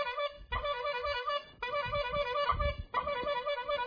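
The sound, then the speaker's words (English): Car horns honk in long, steady blasts from cars passing by a house, one after another with barely a pause between them, over a low rumble of passing traffic. No one speaks. “Car after car started honking.”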